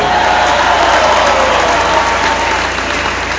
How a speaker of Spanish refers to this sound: Un aplauso para los de gobernación.